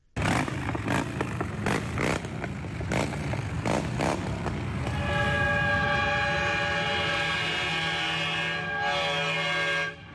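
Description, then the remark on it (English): A very loud, sustained horn from a truck in a motorcycle procession blares like a train horn, holding a steady chord for several seconds after a stretch of rumbling engines and clattering noise. “Well, that was me obviously reacting to a really loud horn that came not from a motorcycle, but from one of the trucks in the procession.”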